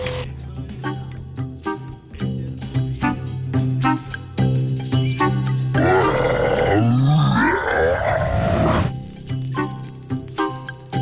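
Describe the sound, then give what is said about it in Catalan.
A voice imitates a dragon with rough, growling roars and cries rising and falling for about three seconds in the middle, loud, framed by a steady tonal jingle before and after. “Vol sortir o no, el drac”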